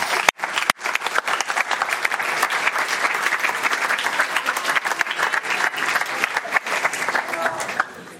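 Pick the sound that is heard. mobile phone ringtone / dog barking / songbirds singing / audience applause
audience applause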